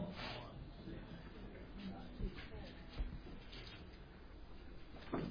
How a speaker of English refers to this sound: Let me shut that door real quick.